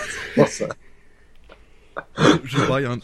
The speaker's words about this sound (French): Je baille à la radio, merci. Vous entendrez jamais ça à Radio-Canada.